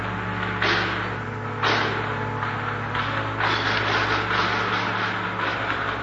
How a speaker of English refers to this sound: the doors at the main entrance to the church opened.